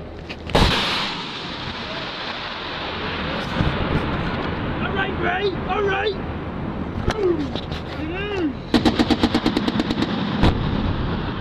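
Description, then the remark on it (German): Gunfire and a rocket attack in combat in Afghanistan, from an amateur video: a loud blast opens, scattered single shots follow, then a rapid burst of automatic fire. Shouting voices break in between over steady rumbling background noise. “Ich möchte wissen, wie so ein Angriff klingt und suche auf YouTube und LiveLeak nach Videos zu Raketenangriffen und Kampfhandlungen in Afghanistan.”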